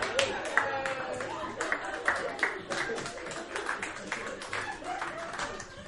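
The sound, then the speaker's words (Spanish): A crowd applauds steadily, many hands clapping in a dense, continuous patter at moderate loudness, with a few sharper claps standing out. “Puedes seguir aplaudiendo mientras me tomo el chaguito de agua, no me molesta.”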